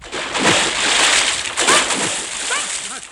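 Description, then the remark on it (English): Heavy splashing and sloshing in an uneven stride-like rhythm as people wade through shallow water near a river, with a few brief chirpy squeaks near the end. “I think we're near a river.”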